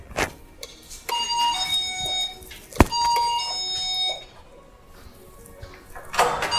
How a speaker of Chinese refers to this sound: 哦，他们有门铃。